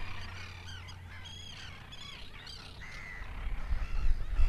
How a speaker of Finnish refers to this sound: Ja koko aamu on tässä paistateltu ihanassa lämpimässä säässä ja kuunneltu tässä vieressä olevan luodon lintujen mekastusta, oikeita konserttia. Kuuntelepas.